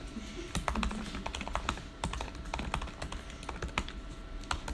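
Rapid, irregular clatter of keys on a computer keyboard, steady for several seconds, with no voices over it.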